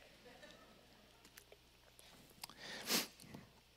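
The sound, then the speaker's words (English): Someone quietly drinks water: soft mouth sounds and a few small clicks, then one short, louder sip or gulp near the end, with no talking. “I'm starting to cry, so I'm going to get a drink of water.”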